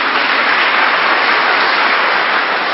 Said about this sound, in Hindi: सब पहले नंबर के कितने अच्छे भगत है, इन भक्तों के लिए ताली तो बजा दो।